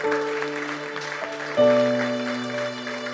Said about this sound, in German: Aber der entscheidende Punkt ist so, ich bedanke mich ganz herzlich. Ihr dürft Ihnen gerne einen großen Applaus geben.